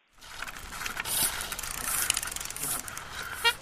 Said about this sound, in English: Smooth sound of precision mechanics, the rhythmic clicking of finely tuned bicycles, chains flipping from gear to gear, the occasional handlebar bell,